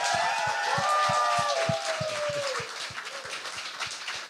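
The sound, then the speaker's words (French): A live audience gives loud, dense applause mixed with whooping cheers to welcome the evening's guest, Chantal Lamar, a steady low thumping pulse running underneath, the clapping holding strong before easing slightly near the end. “Mesdames et messieurs, donnez un tonnerre d'applaudissements pour Chantal Lamar!”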